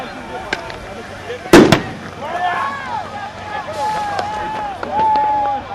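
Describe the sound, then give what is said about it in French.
A sharp, loud bang with a quick second burst as CRS riot police fire tear gas grenades at migrants by the port ring road, more than 200 launched that day, followed by a noisy crowd with rising and falling shouts and whistles. “Ce jour-là, plus de 200 grenades lacrymogènes sont lancées.”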